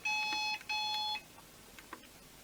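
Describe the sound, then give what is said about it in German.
A telephone rings twice in quick succession after its number is dialled, each electronic burst a steady high-pitched tone lasting about half a second, loud, followed by quiet background noise. “Ja, es klingelt.”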